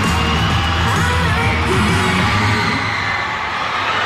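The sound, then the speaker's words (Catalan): A large crowd of fans screams continuously at high pitch at pavilion 7 of the Fira de Montjuïc in Barcelona on a Saturday morning, a dense, loud wall of shrieks and yells without letup, with no clear speech above it. “Bé, en cosa de 10 minuts arribarem a les 2 del migdia, farem una pausa i a la tornada us expliquem d'on surten aquests crits.”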